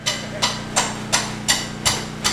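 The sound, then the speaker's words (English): A hammer strikes repeatedly against drenched drywall being torn out of an office in downtown New Bern, North Carolina, after flooding from Hurricane Florence: about seven sharp, evenly spaced blows in quick succession, over a steady low mechanical hum like an engine running. “hammer in hand, spent Sunday tearing 2 feet of drenched drywall out of his CPA office in downtown New Bern.”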